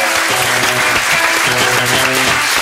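Loud, steady audience applause fills the whole clip, a dense crackle of clapping with a brief musical jingle playing underneath, no voices.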